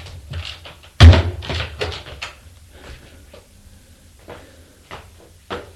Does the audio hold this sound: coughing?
no